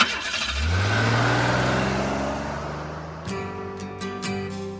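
A car engine cranks and catches, revs up with a rising hum, then settles into a steady running drone as the vehicle pulls away, moderately loud, with no one speaking.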